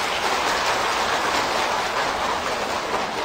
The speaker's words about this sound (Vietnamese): Và tràng vỗ tay của các quý Phật tử đó thể hiện cái tính cam kết, mong quý vị nỗ lực cùng các thầy các sư cô làm sứ mệnh quan trọng bậc nhất này.